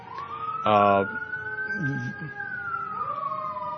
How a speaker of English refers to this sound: You can probably hear in the background, we do have a little interference here. That's not feedback from the microphone. That's just simply an ambulance or fire engine going by. It'll pass in a moment.